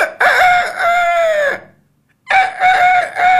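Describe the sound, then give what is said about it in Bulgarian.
In a studio, a voice imitates the youngest rooster crowing as it learns to sing: a strained, wavering cock-a-doodle-doo call, then a short pause and a second burst. Loud, with no other talking. “Кукурига най-малкият петел.”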